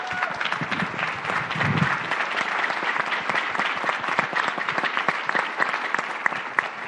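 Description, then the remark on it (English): Sustained audience applause for the panelists at the end of a discussion event, a dense wash of many hands clapping steadily for about seven seconds at an even, fairly loud level, with scattered sharper claps standing out. “Please join me in a round of applause for our terrific panelists.”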